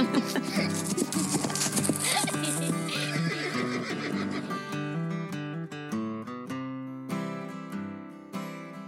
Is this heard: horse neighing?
yes